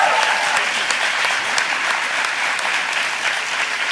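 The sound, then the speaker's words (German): Steady audience applause for a crew member's birthday, a dense, even crackle of many hands clapping at a constant moderate loudness for the whole stretch, with no voices standing out. “Kleiner Applaus”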